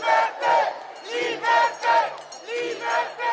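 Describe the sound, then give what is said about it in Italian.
A large protest crowd in front of the Federal Parliament in Bern, protesting the extension of the Covid certificate, chants in rhythmic, repeated bursts, loud, with cheering and applause for the speakers swelling in regular waves about every half second. “Davanti al Parlamento gli oratori si sono espressi in particolar modo contro l'estensione del certificato Covid per accedere a varie attività, raccogliendo gli applausi della folla.”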